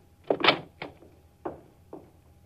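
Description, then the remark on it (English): An office door opens with a loud rattling clunk of the latch and handle as a man enters, followed by a few softer thuds spaced about half a second apart, with no one speaking. “I got in through the door.”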